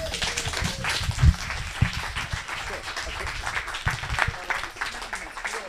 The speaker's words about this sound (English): A big applause